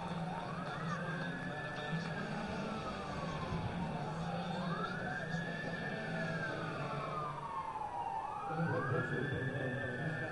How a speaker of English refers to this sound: You hear the sirens in the background. There's an ambulance that is speeding north on Larch Street to our right.